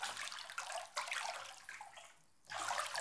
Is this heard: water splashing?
yes